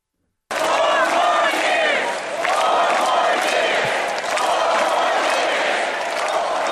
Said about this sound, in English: I mean, you got the crowd chanting. You got the crowd chanting for four more years of Commissioner Bob. Four more years. Four more years.